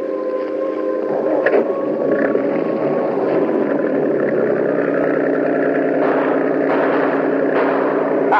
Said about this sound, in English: I have special auxiliary motor in this cruiser. We can lose them readily.